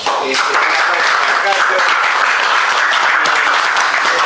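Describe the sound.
Sustained applause from a crowd for the field captain: a dense wash of many hands clapping steadily and loudly for several seconds, with faint voices mixed in beneath it.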